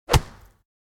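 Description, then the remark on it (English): A person punches a heavy bag once, a solid thwack with a deep thud that fades quickly into silence. “She punched the bag.”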